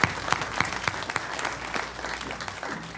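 An audience claps steadily, a dense wash of many overlapping hand claps with sharp individual slaps poking through, sustained for a few seconds at a fairly even level.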